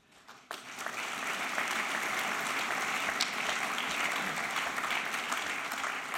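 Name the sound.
audience applause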